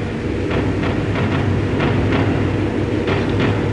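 Fireworks going off in a stadium during a ceremony, fired upward from a volcano-shaped device on wheels in the middle of the stadium: a dense, steady roar with irregular sharp bursts popping through it every half second or so, loud throughout and with no voices standing out.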